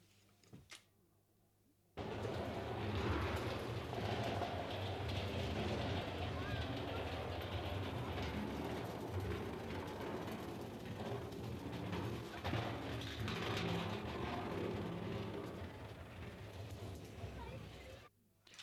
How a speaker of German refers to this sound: Ein Zug fährt ein und plötzlich ertönt es aus dem Lautsprecher.